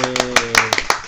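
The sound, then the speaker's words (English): A brief round of applause: about eight sharp, irregular handclaps in quick succession over a second, fairly loud, with a faint steady hum underneath. “So, round of applause.”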